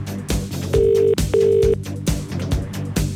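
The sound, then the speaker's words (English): A telephone call to a colleague's mother ringing out on the line, one double ring of two steady tonal bursts, heard over an upbeat music bed with a thumping beat. “Who are we going to phone?”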